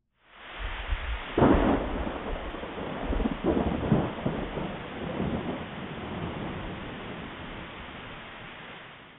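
A thunderstorm with steady rain hissing throughout, broken by a sharp crack of thunder early on and a few lower rolling rumbles, then easing into a continuous wash of rain.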